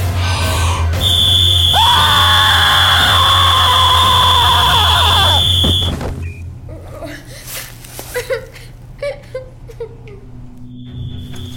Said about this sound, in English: Now the Sandman's whistle will stop your evil scheme, Dr. Spider Lobster. Blow it, Sandman!